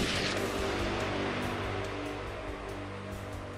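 A loud bomb explosion from a parking garage at 12:18 in the afternoon, striking a tower's wall with massive force, a sharp initial blast giving way to a sustained, heavy roar and rumble, with a low musical drone underneath and no voices.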